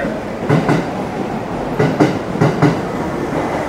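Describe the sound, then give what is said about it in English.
A subway train heading toward Shibuya rolls into the station, its steady rumble broken by paired clickety-clack thumps of wheels over rail joints, repeating in a loose rhythm. No one speaks. “Okay, here's our train.”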